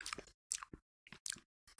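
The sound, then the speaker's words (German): Wet chewing and lip-smacking on salty licorice candy, five or six quick squishy bursts with short silent gaps, fairly quiet and with no talking. “Mögen auch, glaube ich, unsere Hörerinnen gerne, wenn wir so ein bisschen schmatzen und.”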